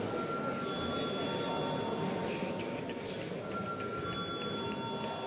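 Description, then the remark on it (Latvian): A voting bell rings in the Latvian Saeima before deputies vote on a draft decision, a continuous, steady, bright metallic buzz that never pauses, with a faint murmur of the chamber underneath. “Lūdzu zvanu.”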